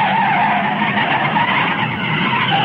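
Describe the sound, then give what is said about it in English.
A pickup truck skids hard on a lonely highway at night, tires screeching in a loud, steady roar that holds for a few seconds without letup, intense, with no voices, as it crosses the center line and smashes into a car in the film The Resurrection of Zachary Wheeler. “and smashes into the car.”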